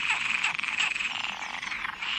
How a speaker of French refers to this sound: Il y a un fond sonore qui correspond un peu aux percussions, aux rythmiques de son des grenouilles.